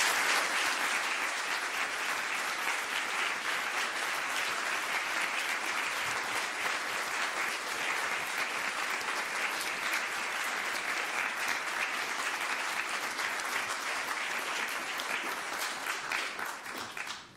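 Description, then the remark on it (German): An audience applauds the children who performed, just before the sermon at a Christmas church service. The applause is steady for the whole stretch, a dense, even wash of many hands clapping at once that holds its loudness before tapering slightly at the very end. “Und bevor das jetzt von der Predigen, möchte ich, dass wir noch einen grossen Applaus geben, den Kindern, die das so schön gemacht haben.”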